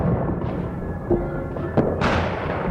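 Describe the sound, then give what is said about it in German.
Fireworks going off: a few sharp cracks and pops, then a bright crackling burst near the end over a steady rumbling background, no voices. “Das war auch das Feuerwerk.”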